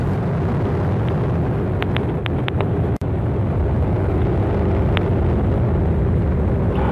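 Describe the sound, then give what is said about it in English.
An Atlas V rocket's engines roar at liftoff carrying Tedris K, a loud, steady, rumbling wall of noise with a few sharp crackles and one momentary dropout, and no voices. “And liftoff of the Atlas V rocket with Tedris K, broadening, enhancing, and improving the capability of space-based tracking.”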